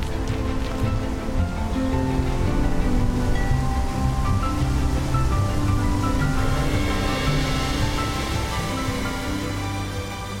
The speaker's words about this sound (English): Now we've just got down to the river here, and there's a guy fishing. It's a very peaceful spot, isn't it?